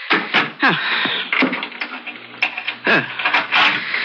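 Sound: door being locked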